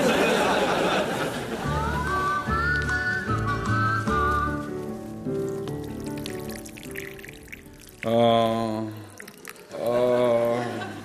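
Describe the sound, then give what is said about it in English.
Water pours and splashes steadily as someone waters plants, mixed with wavering whistle-like tones and short bursts of voiced sound near the end. “do you have to water the plants now? Is it very loud?”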